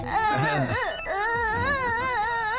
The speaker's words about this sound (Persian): گریه نکن، گریه نکن، تو هم برو بخواب.